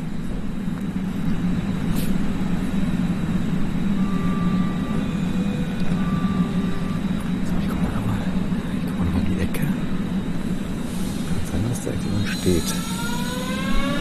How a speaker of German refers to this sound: Ja, ich warte mal noch, bis die S-Bahn weggefahren ist.